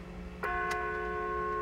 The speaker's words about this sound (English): It's 10:50 in the morning. How? Why? Does it stop at 11? I don't know. That's going to suck. Then, like, half this podcast, we're going to have a bell in the background. Are we Satans? Is that why it's ringing?